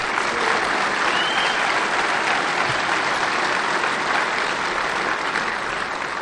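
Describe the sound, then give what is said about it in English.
A convention audience applauds itself in a sustained, dense, steady roar of many hands clapping at a constant loudness for several seconds, without pause or voices on top. “And again, please give yourselves a round of applause for putting on such a great con.”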